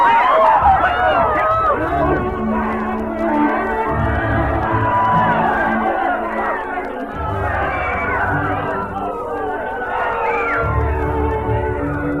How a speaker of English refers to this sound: Panic spreads through the crowd like a plague as smoke begins to roll from the back of the auditorium.